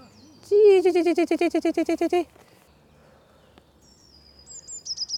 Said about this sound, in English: Want to listen to quite an unusual sounding blue tit. There.